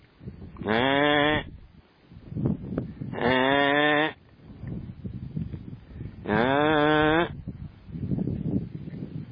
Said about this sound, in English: Talking sheep.